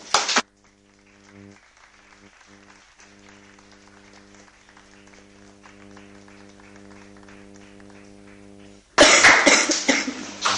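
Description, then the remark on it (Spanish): A brief burst of audience applause for the children of Colegio de Santiago and Luis Pérez Rueda after their talk on education cuts off, giving way to a steady low hum, before loud, dense applause erupts again and carries through to the end. “Bueno, yo creo que aparte de los aplausos para el Colegio de Santiago y Luis Pérez Rueda, yo creo que las niñas del Colegio de la Milagrosa también se merecen ese aplauso.”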